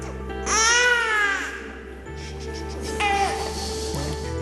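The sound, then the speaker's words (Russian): An infant cries in two shrill, wavering wails in a church, echoing off its painted walls as a priest in bright vestments prays, a longer wail near the start and a shorter one later, with a steady low hum underneath. “И почему от расписных стен храма отражается пронзительный детский плач?”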